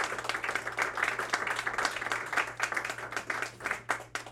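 A crowd applauds the Morningside Music Groups at the Art Lounge, dense overlapping claps forming a continuous rustling roar that holds for several seconds with slight swells, a low hum underneath.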